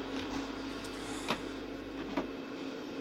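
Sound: vacuum cleaner running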